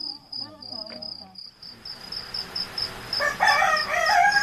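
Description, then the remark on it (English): A rooster gives its first crow at ten to two in the morning, loud, strained and drawn-out, set against a steady, high-pitched chirring of crickets that runs unbroken the whole time. “First cockcrow, and it's only 10 to 2 in the morning.”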